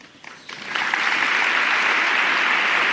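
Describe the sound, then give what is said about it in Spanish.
An audience bursts into applause, a new ovation for the joined appearances of the Cristo del Amor, the Cristo de la Buena Muerte and the Cristo de la Caridad de Santa Marta, starting with scattered claps and quickly swelling into a loud, sustained ovation of dense, continuous clapping. “Y ahí han unido las apariciones del Cristo del Amor, el Cristo de la Buena Muerte, el Cristo de la Caridad de Santa Marta para una nueva ovación.”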